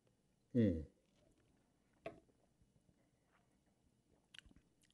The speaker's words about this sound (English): Oh, but it smells good. Sorry that I have to sip and swirl and...